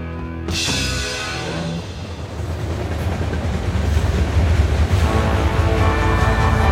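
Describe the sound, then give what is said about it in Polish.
A train rumbles steadily along the rails across Europe in 1973, as a singer travelled from a concert in the USSR toward Paris via Poland; its low continuous roar with faint rhythmic clatter builds slightly louder over several seconds, with no voices. “Był rok 1973 i … jechał pociągiem przez Europę.”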